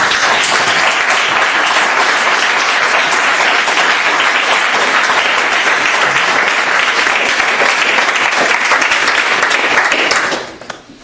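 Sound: audience applause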